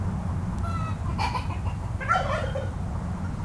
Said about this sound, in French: Alors on a la poule qui parle avec le coq, qui parle avec les dindons. Voilà, là on l'entend bien, donc là-bas en fait de l'autre côté de l'enclos il y a un coq qui se balade parce que lui il a en aile pleine, donc il vole de tous les enclos